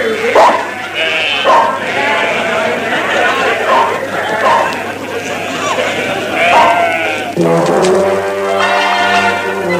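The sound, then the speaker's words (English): A flock of sheep bleats continuously and loudly, many overlapping wavering calls, ending with a long, strong bleat near the end. “All these sheep came in.”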